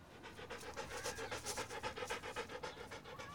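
A small dog pants rapidly and steadily, quick breathy huffs repeating in an even rhythm, with no voices.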